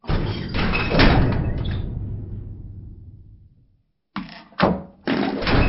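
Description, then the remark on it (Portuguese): A door is slammed shut hard by a man rushing in abruptly, its heavy rumble fading out over a few seconds. After a short silence, several more loud thumps and bangs follow close together. “entra bruscamente e bate a porta logo atrás de si, com violência, para que não se note o que estava acontecendo lá atrás.”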